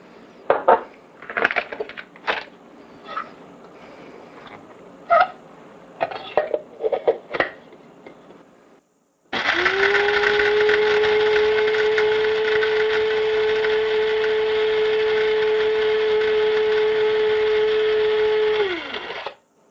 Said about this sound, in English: Okay, that was half. It's hopefully ground pretty good. Let's sift through it. Still a little up in the bean. Oh. It's not going to be a really fine grind.